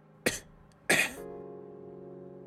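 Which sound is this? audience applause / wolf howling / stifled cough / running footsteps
stifled cough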